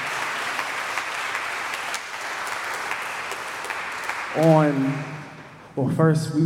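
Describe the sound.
An audience claps for the youth in a steady, dense wash of applause for about four seconds one morning; as it fades, a man's voice begins speaking.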